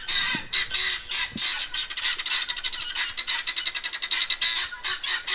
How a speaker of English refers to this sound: Otherwise, my only sound enemies are things like the washing machine downstairs, which I can turn off, but I haven't yet learned how to turn the guinea hens off.